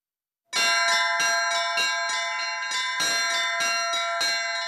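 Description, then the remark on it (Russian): Church bells ring loudly in a quick, steady rhythm at a bell-ringing master class during an Orthodox culture festival in Penza, Russia. Several bells are struck in rapid succession, their tones overlapping and sustaining throughout. No voices are heard. “Мастер-класс по колокольному звону – это уже традиция спасских вечеров.”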